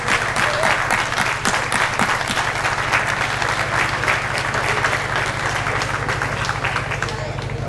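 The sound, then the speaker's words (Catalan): A crowd applauds steadily, dense overlapping claps at a constant loud level for several seconds, with a low steady hum underneath, as councillor Núria Altadill of the Raval de Cristo is called up. “Un fort aplaudiment.”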